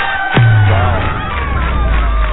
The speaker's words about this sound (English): You know, I was just thank you. I was just listening to the applause by this group that we've had, you know, the past few weeks.